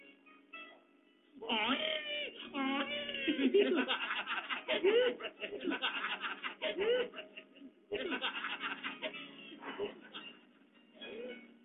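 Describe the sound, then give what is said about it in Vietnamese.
A human voice imitates a donkey's bray at a mourning ceremony before the body of the deceased, with loud, repeated hee-haw cries that swoop up and down in pitch, broken by a short pause and then a second round of braying. “Bây giờ, tôi sẽ học theo tiếng lừa kêu cho ông nghe một lần.”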